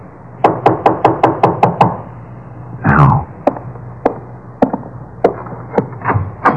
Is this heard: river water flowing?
no